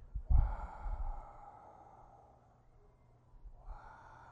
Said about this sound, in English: And as I inhale and I exhale, I allow the inner world. If you want to think of your skin bag body as the balloon, the layer, so you have latex in a balloon. See, as you inhale, see, you're empty and still, but your mind is very clear, watching.